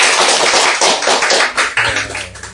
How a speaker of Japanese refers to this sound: 今日は歓迎礼拝に、ようこそおいでくださいました、ご来会くださった皆さんを心から歓迎したいと思います。歓迎の意味を込めて、拍手を持って歓迎したいと思います。